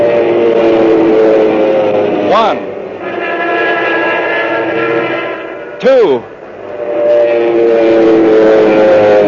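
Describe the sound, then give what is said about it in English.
Loud, steady droning of RAF fighter plane engines over Malta, with two sharp swooping whines as planes dive in combat against enemy planes, one early and one later, while a man's voice counts aloud over the roar. “Sometimes it was just one burst of fire from his gun, so accurate was his aim.”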